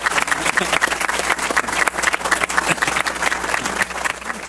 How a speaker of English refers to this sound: And with that great piece of information, I'd like to give a round of applause to Rod and Janelle.